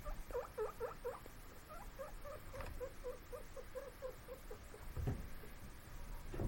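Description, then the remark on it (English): Guinea pigs squeak and chirp in quick, rhythmic bursts of short, mid-pitched repeated calls, fairly soft, with a few rustling thumps in the background and no talking. “My guinea pigs are being weird because I listen to them.”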